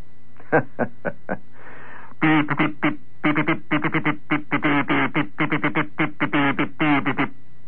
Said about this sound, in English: I said something with the kazoo this time. Could you read it?